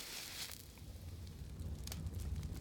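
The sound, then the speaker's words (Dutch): A fire crackles in a fireplace, a soft steady rumble broken by scattered sharp pops and snaps. It is fairly quiet and there is no talking. “Iedere ochtend staat Assepoester als eerste op om het vuur in de haard aan te steken.”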